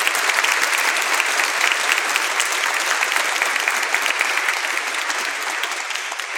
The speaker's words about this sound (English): So a huge round of applause to all the folks.